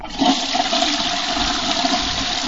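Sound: toilet flushing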